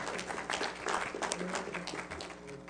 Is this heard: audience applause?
yes